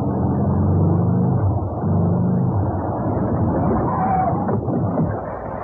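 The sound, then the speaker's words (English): A car engine rumbles low and steady, its pitch dropping slightly as the car pulls up, stops and settles into an idle, with no voices over it. “I'm so pleased you stopped. I'm having a bit of trouble. Puncture? Yes, the spare slat. I've been stuck here for half an hour. You're the first car”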